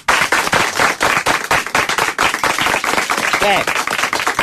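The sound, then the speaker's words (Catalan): An audience breaks into loud, sustained applause, a dense crackle of many hands clapping steadily throughout, with a brief voice or cheer rising above it near the end. “Per favor, que aplaudeixi el nostre públic.”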